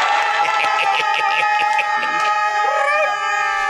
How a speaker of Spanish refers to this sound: Dando aplausos.